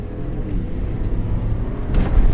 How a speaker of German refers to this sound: beschleunigt seinen Truck auf 80, auf 90, auf 100 Kilometer pro Stunde. Er überholt einen Wagen links, einen anderen rechts, dann wieder einen links.